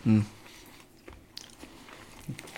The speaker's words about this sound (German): Ich noch ein bisschen kauen, ne? Das ist aber lecker.